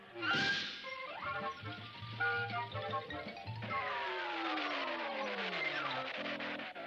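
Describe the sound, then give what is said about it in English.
A car's worn brakes squeal and grind as it slows, a loud, raspy screech with wavering tones that slide downward in pitch over several seconds before it comes to a stop. “Sounds like you need new brakes.”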